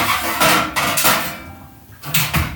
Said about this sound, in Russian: Теперь мы достаем сковородку.